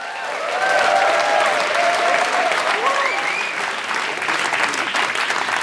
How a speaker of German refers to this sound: Ich wollte gerade noch sagen, einen herzlichen Applaus für Andreas Platthaus, aber der ist schon da.